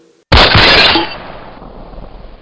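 A single loud shot from a Colt revolver, fired from the hip after an empty beer mug is tossed into the air, cracks out suddenly and sharp, followed by a long noisy decaying tail as it fades away. No one speaks.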